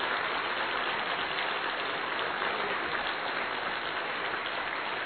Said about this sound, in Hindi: कार्यक्रम की ओर आगे बढ़ते हुए मैं पहले ये कहना चाहूंगी कि आप सब एक बार थोड़ा ताली बजाए तो रिफ्रेश हो जाएंगे.